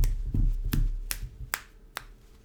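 A series of sharp finger snaps repeats at a steady, unhurried pace, about one every half second, crisp over a low, soft background hum.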